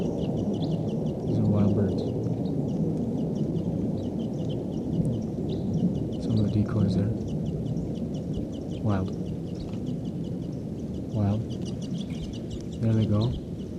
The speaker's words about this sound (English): There could be as many as 10 birds here. Stop. Birds are calling. They may take off.